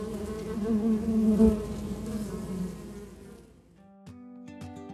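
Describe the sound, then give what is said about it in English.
Dense buzzing of bees swells and drones steadily for a few seconds, then fades out as soft, plinking musical tones take over. “We can work together to get things done, just like the bees.”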